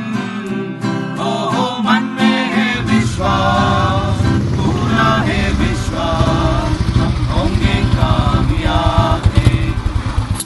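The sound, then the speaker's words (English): A Royal Enfield motorcycle engine rumbles with a deep, steady, thunder-like thumping beat as its rider arrives at campus, kicking in after a few seconds and growing louder toward the end, with voices and other sounds mixed over it. “When you hear this thunder sound of the Royal Enfield in the morning, you can assume that I have reached the campus.”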